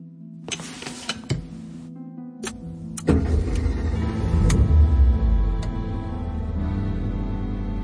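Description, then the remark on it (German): Inside a mouse-grey Peugeot: a few sharp clicks and a brief motor whine, then the engine starts and settles into a steady rumble as the car moves through busy city streets with many cars and people about. “Die Straßen waren belebt, viele Autos und Menschen unterwegs.”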